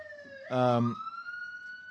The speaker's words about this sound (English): It's siren time. The Radio Mysterioso siren.